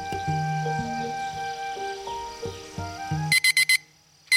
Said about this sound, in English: That peace was promptly disrupted by the alarm clock of the garden's loneliest resident, the Onion. Onion pressed his pedal onto the red button on top of his alarm clock.